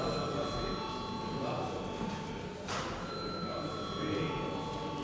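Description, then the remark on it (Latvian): A parliament chamber bell, rung before a vote on a draft law in its first reading, rings continuously for about five seconds, a steady, harsh electric ringing with sustained metallic overtones and a brief dip partway through, with faint murmuring underneath. “Lūdzu zvanu.”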